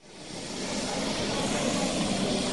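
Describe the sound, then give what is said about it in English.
A loud, steady aeroplane engine drone from a campaign plane touching down in southern Sudan. It swells up in the first moments and then holds a constant roar with a low humming tone throughout. “Out campaigning in southern Sudan, you need one of these, because the roads can be treacherous, and without an aeroplane, you risk getting stuck in the mud and missing the whole election.”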